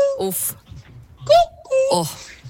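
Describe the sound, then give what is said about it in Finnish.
A human voice imitates a cuckoo: a few short, clear hooting notes with gliding, falling pitch, sung in separate bursts with brief gaps and faint breathy noise between them. “Niin autenttinen oli tuo teidän käki. Pistetään vielä kerran.”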